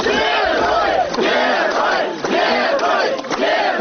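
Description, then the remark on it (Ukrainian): A large crowd at the Minsk bus station in Belarus shouts and chants together in loud, rhythmic bursts, greeting former 2010 presidential candidate Mykola Statkevich on his release from prison, voices swelling in repeated waves with brief dips between them, no single speaker standing out. “Такими вигуками на мінському автовокзалі зустрічали екс-кандидата на виборах президента Білорусі 2010 року 59-річного Миколу Статкевича.”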